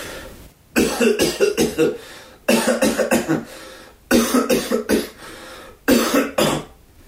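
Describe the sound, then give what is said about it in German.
Four loud bursts of dry, irritating coughing into a smartphone cough-tester app, each a rapid cluster of several short coughs, separated by brief pauses, with no talking. “Bei Ihrem Husten scheint es sich eher um einen trockenen Reizhusten zu handeln.”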